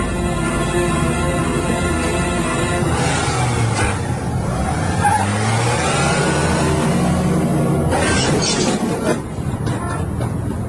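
A car engine revs loudly and continuously while the car is being parked, its droning pitch climbing and dipping over several seconds, with a brief mechanical rattle near the end.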